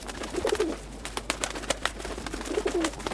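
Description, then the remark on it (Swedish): Pigeons outside a window cooing in two soft, low warbling bursts, one near the start and one near the end, over a steady background hiss with scattered faint clicks. “Och duvorna. Utanför mitt fönster fanns det jättemånga duvor.”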